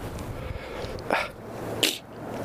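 A single fairly loud sneeze in two parts, a breathy intake-like burst followed by a sharp, hissing release, with a faint background hum and no talking.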